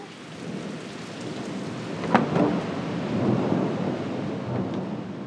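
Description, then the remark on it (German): A thunderstorm: steady hissing rain with low, rolling thunder rumbling underneath, and a sharper crack of thunder partway through before the rumble continues. No one speaks. “Wenn so ein Gewitter kommt, unter Umständen mit Hagel, Sturm, und wenn man da unterwegs ist, auf dem Weg von”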